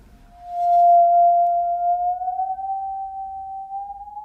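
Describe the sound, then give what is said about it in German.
A musical saw, bent by the player to shift its pitch, sings one pure, sustained tone that swells in after a brief pause and slowly glides upward in pitch, with a gentle wavering vibrato and no voices. “Also ich mache zweimal, biege ich die Säge nach unten und dann einmal wieder zurück.”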